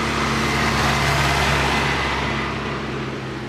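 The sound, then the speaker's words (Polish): Loud, steady roar of road traffic heard from a yard in a village in summer, with many large, very loud vehicles rumbling past and a low engine drone that eases off slightly toward the end; no voices. “Bardzo dużo samochodów, też są to samochody duże, bardzo głośne.”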